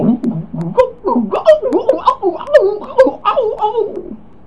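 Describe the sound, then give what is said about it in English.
A voice imitates a turkey's gobble: a rapid, bubbling warble of throaty syllables rising and falling for about four seconds, fairly loud, then stopping abruptly. “A turkey gobbles.”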